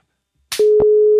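telephone call tone

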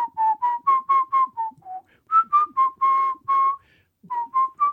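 person whistling

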